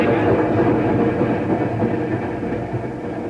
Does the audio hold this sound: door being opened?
no